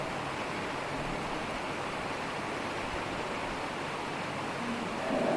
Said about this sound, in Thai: อ้าวฝนมาละบัด